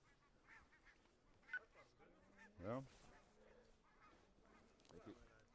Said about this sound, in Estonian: Linnud tuleb läbi.